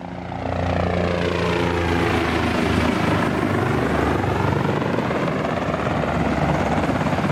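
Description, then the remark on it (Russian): A loud airplane engine drone fades in, then roars steadily as a plane ditches onto the sea about 35 kilometres off the coast of Hong Kong, with a constant whooshing rush and no voices. “Самолет приводнился в 35 километрах от берега Гонконга.”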